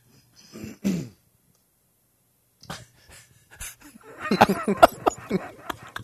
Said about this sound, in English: I don't know why I'm clearing my throat.